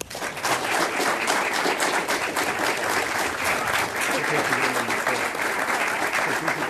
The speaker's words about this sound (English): Everyone in the audience has been very patient holding their applause. Now's the time to do it.